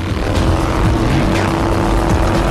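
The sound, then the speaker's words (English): A loud, sustained roar of a jet blasting out of the back of Blade's car as it thrusts along a freeway in pursuit of two bikers, a dense rushing thrust with a deep rumbling base and a faint steady hum running underneath, without any voices. “and a jet blasts out of the back of the car, thrusting along the freeway in hot pursuit of the two biker vamps.”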